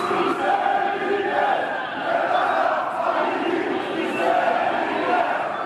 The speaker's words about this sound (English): Chrysi Avgi supporters were out in force in the neighborhood in May, shouting, "Greece belongs to the Greeks." The occasion was a memorial service for a Greek man stabbed to death by Afghans a few days before.